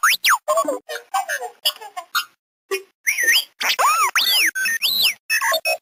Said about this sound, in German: Ja, das charakteristische Quietschen kennt man ja vielleicht. Das war R2-D2 aus Star Wars.